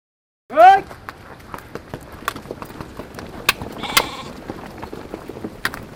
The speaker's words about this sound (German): treibt Jacks, so eine Mischung aus Jack und Rind, Ziegen und Schafe, zurück in sein Dorf Nimo im Industal. Auch das ein Klang des Verschwindens.